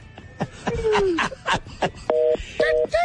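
Telephone keypad tones beep in a quick series of three short dual-tone presses near the end, after a jumble of clicks, thumps and a sliding electronic whine.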